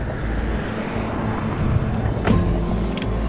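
A car rolls up, its engine and road noise forming a steady low rumble that swells briefly near the end, with no one speaking.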